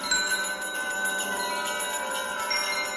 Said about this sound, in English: It swung so softly in the outset that it scarcely made a sound. But soon it rang out loudly, and so did every bell in the house. This might have lasted half a minute or a minute, but it seemed an hour.